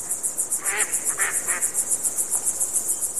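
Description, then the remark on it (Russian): Birds give three short, harsh, nasal calls in quick succession, then a fainter one, over a steady, high-pitched pulsing chirr of insects that runs throughout. “Птицы. Они предупреждают друг друга об опасности, сообщают о появлении пищи.”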